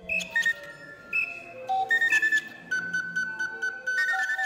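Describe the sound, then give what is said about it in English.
A musician's bird call aviary, a mechanical machine built from about 60 bird calls and controlled with a keyboard, plays music written for it: shrill, whistling tones that glide and hold at different pitches, layered with quick rhythmic chirping bursts in a patterned, musical sequence, with no voices. “And so we put together a machine with about 60 of those, the best of the bird calls.”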